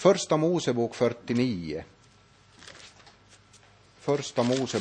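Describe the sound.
A man talks, then pauses while pages of a Bible rustle and flip softly for about two seconds as he leafs through to passages such as Genesis 49, before his speech resumes.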